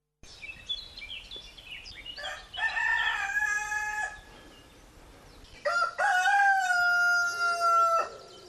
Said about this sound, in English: Somehow, can you believe it, I have trained myself not to be woken by that. That's my neighbour's cockerel. I am up already ahead of him for this morning's sunrise.